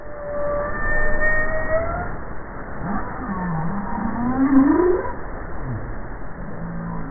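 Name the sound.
whale calls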